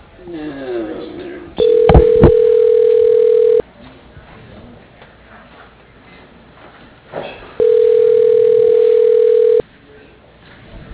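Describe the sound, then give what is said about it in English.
Two long, steady ringback tones on a phone line as an outgoing call rings unanswered before being forwarded to voicemail, each lasting about two seconds with a several-second gap between them. They are loud, over a murmur of faint background voices. “You can only do a minute of ringing, right?”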